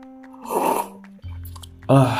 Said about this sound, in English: and I also have my cup of coffee here, so you might hear a lot of slurping, like so.